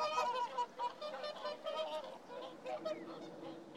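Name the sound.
swans honking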